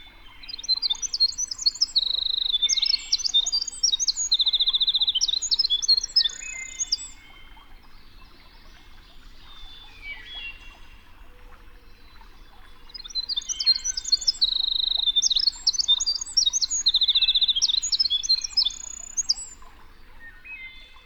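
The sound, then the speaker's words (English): A winter wren pours out two long, rapid, high-pitched bubbling songs full of trills and tinkling notes, separated by a quiet pause, heard clearly with faint background ambience. “The lively, bubbling song of the winter wren was described by John Burroughs as a tremulous, vibrating tongue of silver.”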